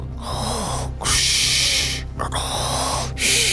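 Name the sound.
voice imitating snoring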